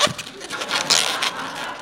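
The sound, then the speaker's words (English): An old rubber balloon squeaks and creaks as it is twisted into a Snoopy balloon animal, the body and back legs being made, a continuous run of rubbing squeals with a few sharper bursts and no talking. “Now doing the body and the back legs. This is actually the part that sort of every animal you make out of balloons.”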